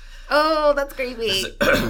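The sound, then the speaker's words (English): A throat clearing like that of the figure called the Sir, said to walk up behind guests and clear his throat: a gravelly voiced rumble followed by a rougher, breathy rasp and a short final grunt, all within about two seconds. “Who has been known to walk up behind guests and clear his throat.”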